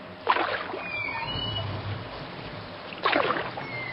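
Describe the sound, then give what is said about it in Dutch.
Two splashy oar strokes of a small rowing boat dip into the river about three seconds apart, with a soft gurgle of the water and faint creaking between them, moderately loud. “En daar liet de veerman plotseling de roeiriem los, zodat het vaartuigje stuurloos met de stroom meedreef.”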